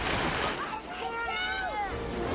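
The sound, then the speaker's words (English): Loud, steady rushing water fills the scene, a broad churning roar of a fast river, with excited voices crying out over it. “side of the pool collapses and they fall into the river.”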